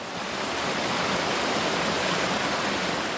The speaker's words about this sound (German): Der Seljalandsfoss ist einer ihrer ersten Reiseziele, ein Wasserfall im Süden Islands.